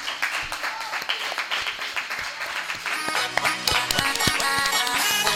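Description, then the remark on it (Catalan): A class bursts into applause it has earned for its work on an interview, a dense, steady patter of many hands clapping that grows fuller and louder after a few seconds, with scattered cheers mixed in. “Jo crec que ara sí que és un bon moment per fer aquest aplaudiment, que us heu guanyat tota la classe.”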